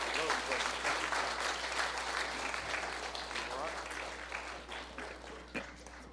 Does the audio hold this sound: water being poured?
no